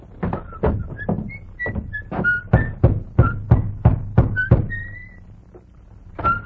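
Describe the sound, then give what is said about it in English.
About a dozen loud, hollow knocks by a soldier in army uniform on the wooden door of a small white cottage, in a steady rhythm, with brief, faint high whistling chirps in the gaps and no talking, then one last knock after a pause. “He rode up to a small white cottage, dismounted, slapped dust from his army uniform, then rapped on the door.”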